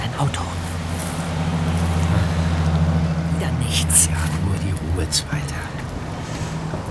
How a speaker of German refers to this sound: Hin und wieder braust ein Auto vorbei, aber insgesamt herrschte nicht viel Verkehr.